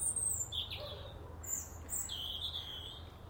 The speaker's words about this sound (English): What a lovely morning. Lovely morning, sunshine and bird song. Calm weather, blue skies.